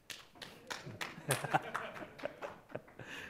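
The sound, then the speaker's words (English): Scattered audience applause, a loose run of irregular claps at moderate volume, some sharper than others, with a faint murmur of voices underneath. “So I'm loving to hear your claps.”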